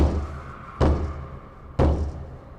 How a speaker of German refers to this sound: Da stand Gustav vor der schweren Holztür. Er hob die Hand und klopfte.